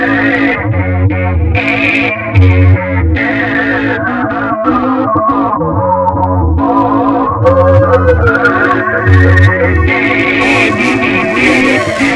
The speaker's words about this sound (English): Yo. Man, I need some more distortion on my microphone.